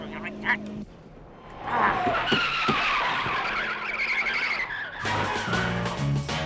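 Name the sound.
car accelerating hard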